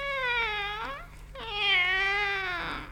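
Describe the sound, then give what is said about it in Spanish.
A cat meows twice, fairly loud: a shorter drawn-out call, a brief pause, then a longer wavering meow that trails off. No one speaks. “Buenas noches, señor gato.”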